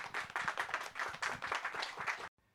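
A crowd applauds steadily, many hands clapping in a dense, bright patter that keeps up for about two seconds before cutting off abruptly into near silence.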